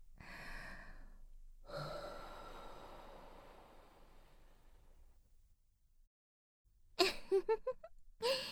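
Slow, airy exhalations: a short breath, then a long soft one that fades out. After a brief silence come two louder, sharper breaths with a faint voiced edge. No one speaks.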